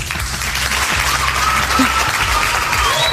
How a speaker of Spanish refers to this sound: Aplaudimos como se merece